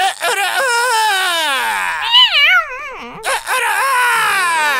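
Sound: rooster crowing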